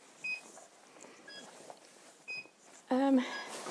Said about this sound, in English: I do apologise, that's an alarm going off.